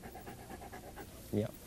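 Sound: dog panting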